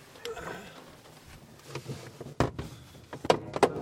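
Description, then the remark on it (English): A glider canopy slides shut with a soft scraping rumble, followed by several sharp latching clunks and clicks near the end, with no voices. “Okay, canopy.”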